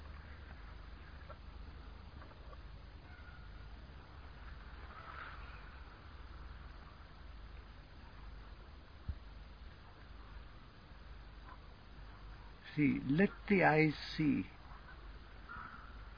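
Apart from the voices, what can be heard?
birds calling outdoors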